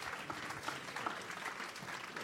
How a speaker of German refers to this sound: Applaus nochmal für Klaus Fester und Dagmar Bittner.